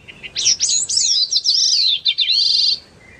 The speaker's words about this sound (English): For 20 years, scientists with the Vermont Center for Eco Studies have been learning about a tiny songbird called the Bicknell's thrush.